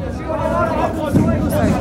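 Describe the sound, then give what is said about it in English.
A dense crowd of people inside a prison, crammed into cells, shouting and screaming the names of relatives lost in the prison over one another, a loud, steady, frantic wall of overlapping voices with raised cries poking through, never letting up. “They were screaming the names of their relatives who had been lost into this prison.”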